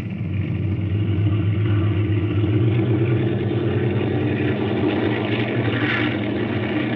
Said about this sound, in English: All planes follow me. Use runway 28, wind west 15 miles. Take off at 30-second intervals.